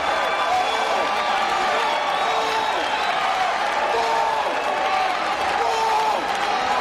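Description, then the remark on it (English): A large, partisan, red-clad stadium crowd of Wolfpack fans at a baseball game against Clemson roars steadily. Rising and falling Wolfpack chants of many voices weave through the constant loud cheering for the whole stretch. “As the Wolfpack chants emerge from this partisan red-clad crowd.”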